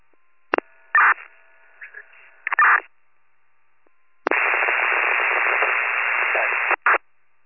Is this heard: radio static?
yes